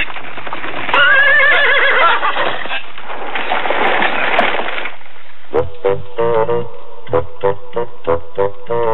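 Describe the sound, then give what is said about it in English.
A horse whinnies loudly, its neigh rising and wavering, then hooves pound away in a quick galloping rhythm with no voices present. “Now go, horse, go.”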